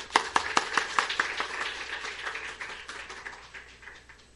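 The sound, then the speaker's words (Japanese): Audience applause welcoming a pastor, given in thanks to God: a burst of sharp, overlapping hand claps that starts strong with distinct loud claps, then thins into a softer, steady patter as it fades out. “神様に期待してですね、神様への感謝を込めて拍手を持ってお迎えしたいと思います。”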